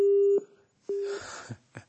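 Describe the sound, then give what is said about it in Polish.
A telephone busy tone on a Radio Maryja call-in line after a caller disconnects sounds two steady, low beeps separated by a short pause, clear and fairly loud, then trails into faint muffled background noise. “Albo się ktoś rozłącza, albo próbuje...”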